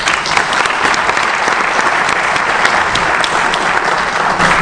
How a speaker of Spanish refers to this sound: Les doy un aplauso antes de escucharlas porque se van a deleitar realmente con ellas.